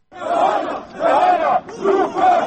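Activists of the Self-Determination (Samoopredeljenje) movement chant slogans against government and police violence, including "send the police to the north", outside the Kosovo government building, in loud, rhythmic bursts, voices rising and falling together in repeated phrases with brief dips between them.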